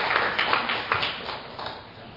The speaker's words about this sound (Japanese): では皆様改めて拍手をお願いします。